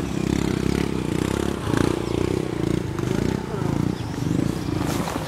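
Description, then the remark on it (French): A motorcycle engine labours at a small bridge, its loud, throaty rumble running continuously for several seconds with uneven surges as a family struggles to get it moving forward. “Là, on est tous descendus et pour pouvoir passer, là, il y a une famille là, qui n'arrive pas à faire avancer sa moto.”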